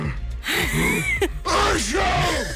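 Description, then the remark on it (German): A man mimics the suffering of a man with 'man flu', letting out loud, theatrical groans and moans in two long drawn-out bursts, pitch sliding up and down in exaggerated misery, with a brief catch of breath between them. “Ja, da gibt es die kleinen Nieser und dann gibt es ja auch noch die Männergrippe. Da hört sich das dann so an.”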